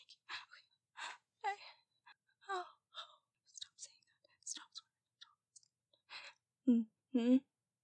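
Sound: loud breathing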